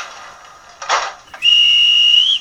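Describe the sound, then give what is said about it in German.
A model railway train's departure whistle: a loud, shrill, steady high-pitched tone lasting about a second, with a slight upward bend at the end, preceded by a soft hiss and a brief puff of air. “Bitte Türen schließen. Vorsicht bei der Abfahrt.”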